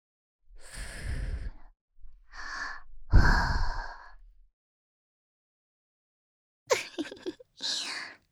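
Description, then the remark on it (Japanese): Breath blown into the ear: five soft, airy exhalations, the first three long and breathy, then a pause before two shorter, rustling puffs. No talking. “耳に吐息吹きかけて、君の体がビクンビクンってしちゃってるよ。”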